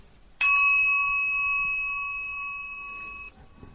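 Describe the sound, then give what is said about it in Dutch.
A single bell is struck once during a mantra recitation, after 21 shared recitations of the Dainichi Nyorai mantra of the Taizokai, giving a bright, clear ring with shimmering overtones that sustains for nearly three seconds before being cut off. No one speaks. “21 keer samen, dan sla ik met de bel en reciteer jezelf verder totdat je dit ongeveer 100 keer gedaan hebt.”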